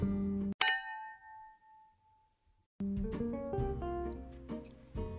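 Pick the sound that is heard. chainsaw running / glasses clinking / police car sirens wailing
glasses clinking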